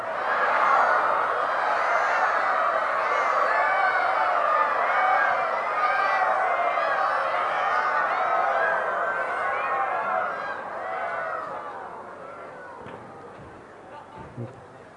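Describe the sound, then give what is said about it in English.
A crowd of voices imitates peacock calls together, a loud, overlapping mass of high, wailing cries that rise and fall for about eleven seconds before thinning out and fading toward the end. “And the boys would sing just like the peacocks and dance just like the peacocks. Would you like to try?”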